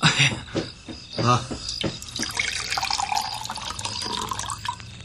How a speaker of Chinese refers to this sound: 水，我要喝水。 好，我来倒水啊。